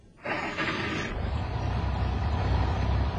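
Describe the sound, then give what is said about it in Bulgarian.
A truck engine is started by a soldier in the cab; it turns over and catches with a loud burst, then settles into a steady, low rumbling idle. No one speaks. “Войниче, останете в кабината и запалете мотора.”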